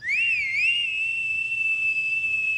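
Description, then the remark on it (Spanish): A single clear human whistle, a signal toward a house across the street meaning all is safe, rises with a wavering swoop, then holds a long steady high note for a couple of seconds, fairly loud over a faint low rumble. “Y al cabo de un rato, volvió a silbar.”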